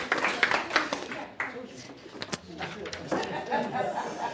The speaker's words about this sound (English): Should we give them a round of applause? Thank you very much, guys. Thank you.